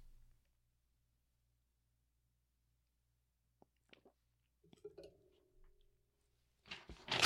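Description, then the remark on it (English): A woman rips paper, with a few faint scattered crinkles and ticks in near silence before a louder tearing burst at the very end. “She's ripping paper again.”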